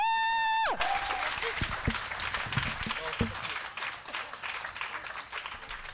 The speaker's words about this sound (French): Donc si vous pouvez les applaudir encore un coup, ça serait super cool.